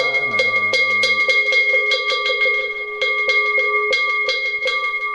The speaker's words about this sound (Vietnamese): Lần này chúng ta một lần chuông lên và lần chuông xuống.